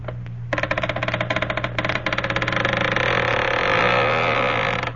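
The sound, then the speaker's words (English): A door creaks open slowly, starting as a rapid stuttering rasp that stretches into a long, grinding groan, loud over a low steady hum. “And now the door creaks open.”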